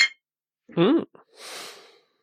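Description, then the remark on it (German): A voice imitates the clink of glasses for a toast with a short, ringing vocal sound, followed by a soft click and a breathy exhale, fairly quiet. “Ich simuliere mal das Anstoßgeräusch.”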